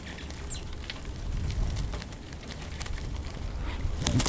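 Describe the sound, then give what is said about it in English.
A flock of more than 100 brown-capped rosy finches pecking furiously at sunflower seeds on a platform feeder in Mountain Village in winter, a busy patter of small quick taps and clicks over soft outdoor hiss, with a faint chirp near the start. “The birds travel in flocks, and on this day, it's a bonanza as they furiously peck at the birdseed.”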